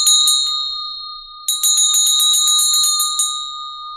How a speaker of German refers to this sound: Das ist ja wirklich nur so 10 Zentimeter maximal vielleicht. Ganz klein. Und die Glocke passt in eine Hand. Die haben auch spezielle Etuis dafür und so. Das ist alles ganz, ganz edel. Und wenn ich sie jetzt schwinge, hört sie mal eben alleine.